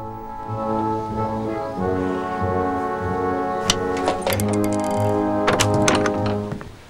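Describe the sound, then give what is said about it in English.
Stones thrown at a front door strike the wood in a few sharp, irregular thunks, clustered in the second half, over a steady bed of sustained, droning musical tones. “Slee is throwing stones at Ian's front door.”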